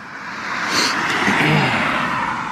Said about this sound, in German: Beschwerst du dich über die Autos wieder jetzt, ja?